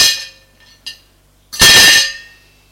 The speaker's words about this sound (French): Puis, va chercher les couverts. Les trouve. Va les poser sur la table avec fracas.